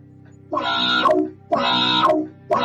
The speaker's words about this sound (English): The alarms are still blaring from a speaker every few feet and the sound is obnoxious.